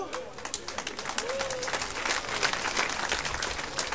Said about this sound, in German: Normalerweise kommt an dieser Stelle wirklich ein ganz spontaner, donnernder Applaus für mich, denn so viel Schwachsinn muss man sich morgens erzählen, erst mal einfallen lassen.